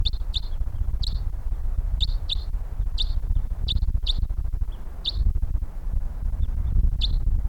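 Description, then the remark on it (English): Birds coming in give short, high-pitched chirping calls, repeated every half second or so in brief clusters, over a steady low rumbling background noise; about three birds, heard around 8:25. “Okay, we got birds coming in here.”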